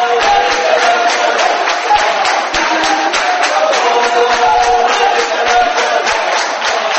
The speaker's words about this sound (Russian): Судя по аплодисментам и выкрикам «Браво!», искушенной публике пришлось по душе оригинальное исполнение национальных композиций.